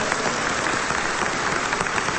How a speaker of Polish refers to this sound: Oklaski dla Matki Bożej cudowne, z całego serca.